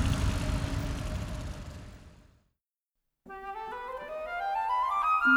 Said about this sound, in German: Betäubender Lärm erfüllt die Luft. Autos rauschen auf der Magistrale vorbei, hinterlassen Schmutz und Staub.